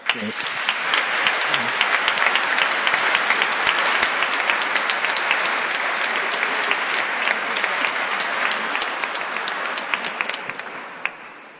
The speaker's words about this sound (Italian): E penso possiamo dire anche la nostra accoglienza con un applauso.